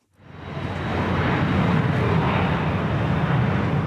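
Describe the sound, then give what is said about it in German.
A steady, broad roar of airplane engine noise at Zurich Airport swells up within the first second and holds at an even level, a dense low rumble with a faint high whine above it. “Verkehrsdrehscheibe Flughafen Zürich.”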